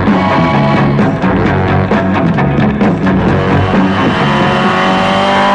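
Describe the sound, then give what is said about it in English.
The Batmobile's engine roars and revs hard at high speed as Batman and Robin chase the Joker's car, loud and continuous with rising and falling harmonic whine; no voices are heard. “Come on, Robin. The Batmobile. After him.”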